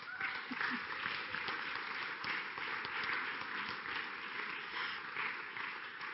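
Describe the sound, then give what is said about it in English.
An audience at a church service applauds steadily for several seconds to thank God, a dense, even wash of many hands clapping at once with no pauses, moderately loud. “For this, I think we can clap and thank God.”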